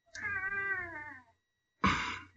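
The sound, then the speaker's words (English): A cat named Roscoe gives one long, drawn-out meow, fairly loud, followed after a short pause by a brief, harsh, noisy burst. No one speaks. “All right, she's got her cat This meowing.”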